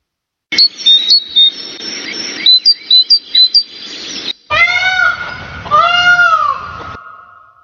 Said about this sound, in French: Perdu, aucune bonne réponse, il fallait reconnaître la mésange et le paon.